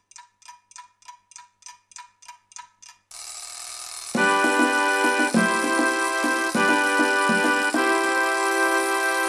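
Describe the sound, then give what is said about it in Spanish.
A clock ticks steadily about eight times, then an alarm clock bursts into loud, continuous ringing as a musical melody starts up beneath it. “Sonó el despertador, tengo que ir a la escuela.”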